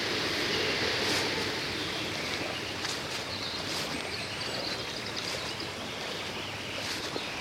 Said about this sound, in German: So ein kleiner Bach und so eine große Schlucht.